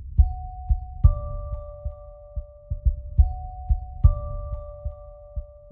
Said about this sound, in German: Unsere Klingel hört sich sonst ganz anders an. Nicht wie ein Herzklopfen.